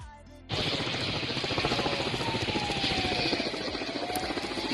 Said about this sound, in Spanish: Este es el momento en el que uno de los 7 helicópteros que se acaban de incorporar a las labores de extinción de este incendio soltaba agua sobre una de las zonas en llamas.